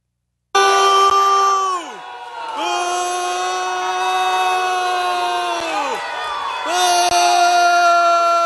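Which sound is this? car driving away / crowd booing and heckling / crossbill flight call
crowd booing and heckling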